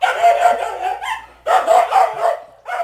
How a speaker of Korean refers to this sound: 밭 주인이 미처 말을 마치기도 전에 개는 큰 소리로 짖으며 마키나세를 향해 달려갔다. 개가 짖는 소리를 듣고 놀란 마키나세는 허둥지둥 울타리를 빠져나오다가 그만 가시나무에 몸을 찢기고 말았다.